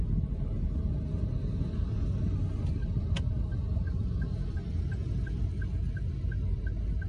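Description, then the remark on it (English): Steady, dense street traffic with many motorcycles, a constant low engine rumble filling the scene, a brief sharp click partway through and a faint, evenly spaced beeping in the background. “Motorcycles outnumber cars.”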